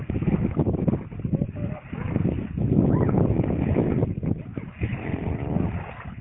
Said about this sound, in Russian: Хорошо, так плеск волн слышно. Ну, вот, видимо, где-то на берегу.